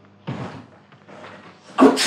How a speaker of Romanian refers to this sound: Ai auzit? A strămutat cineva la ușa de la intrare. Dar cine-o fi venit?